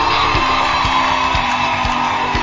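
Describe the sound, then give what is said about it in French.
A crowd cheers and whoops loudly and steadily, a dense wash of shouts and high yells with a few rhythmic low thumps underneath, no clear speech standing out, in a hall at the Centre culturel et artistique des pays d'Afrique during the closing event of the month of women. “Est-ce qu'on peut faire du bruit?”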